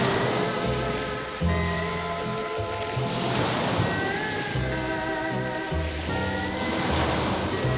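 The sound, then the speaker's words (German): Ocean waves wash steadily onto a beach, a continuous surging hiss that swells and recedes, mixed with soft ambient music featuring sustained tones and a gentle low bass line. “Das Meer liegt vor mir.”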